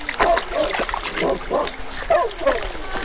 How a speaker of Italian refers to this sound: Il Labrador sguazza felice nelle sacre acque